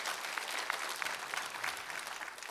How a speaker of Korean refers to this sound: 우리 3부 성가대 힘찬 감사의 박수 드리겠습니다.